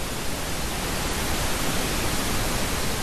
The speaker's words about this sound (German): Und deshalb gibt es auch ein braunes Rauschen. Es gibt ein rosa oder ein pinkes Rauschen.